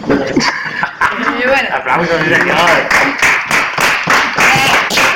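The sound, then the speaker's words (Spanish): An audience claps in a steady patter of sharp hand claps, mixed with lively voices, chuckles and cheering throughout, fairly loud. “Aplausos.”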